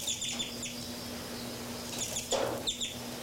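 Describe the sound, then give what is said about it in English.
Two birds chirp in short, high bursts scattered across a few seconds as they fly around, fairly faint, over a steady low hum with no talking. “Birds 3-3 and 5-9 are flying around here.”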